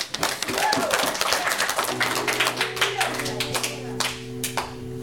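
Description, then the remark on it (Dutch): A crowd applauds with dense, steady clapping that fills the whole stretch, and partway through a sustained low musical tone comes in beneath the ovation. “Applaus.”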